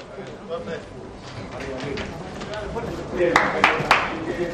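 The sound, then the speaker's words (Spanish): Murmuring voices and scattered applause from supporters fill the background as the Atlético de Madrid team comes out into the Estadio Metropolitano, then a few sharp, bright clacks ring out near the end as boot studs strike the marble stairs. “Los aplausos de los seguidores, los tacos contra el mármol de las escaleras.”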